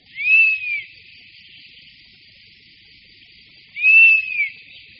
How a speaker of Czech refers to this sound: Jasně znící hlas včelojeda, který je nápadně vyšší než volání dospělé káně lesní, můžeme nejčastěji slyšet na jeho hnízdišti.